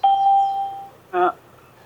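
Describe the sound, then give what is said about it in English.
Two electronic chimes from a call system as a participant, whose connection keeps cutting off, joins and leaves the call: a long, steady bell-like tone that fades out, then after a pause a second, shorter and richer chime. No one is talking. “Is somebody having trouble coming in and leaving? It certainly sounds that way, doesn't it?”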